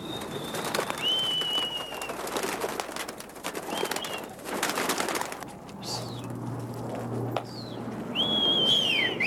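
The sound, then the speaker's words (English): Tiplet pigeons, flown from a rooftop at 130 Fish Street in Manhattan, New York City, flutter and call, with bursts of wing flapping, thin whistling tones and soft cooing over a steady outdoor background and a brief low hum. “This is my pride and joy, flying pigeons on 130 Fish Street.”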